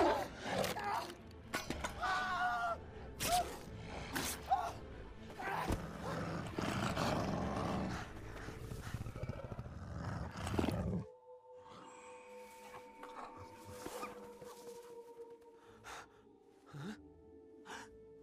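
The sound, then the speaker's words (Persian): A wolf growls and roars loudly for about eleven seconds amid harsh, crashing noise, then it cuts off abruptly into a quieter stretch with thin, sustained tones. “گرگ تکون بخور، سر راه برو کنار، برید کنار.”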